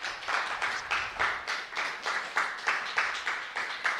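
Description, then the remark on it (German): An audience applauds before a talk on metadata, in a steady, rhythmic beat, roughly three claps per second, bright and crisp, holding an even loudness throughout with no voices over it. “Großen Applaus auch hier.”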